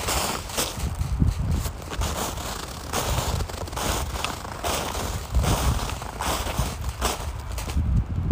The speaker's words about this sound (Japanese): 私の歩く音と豊一郎くんの歩く音、うまく撮れたかな。はい、豊一郎くんの足音と私の足音。